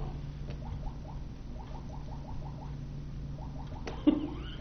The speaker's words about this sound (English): Pac-Man. That's what it sounds like, you're right. It's the clock.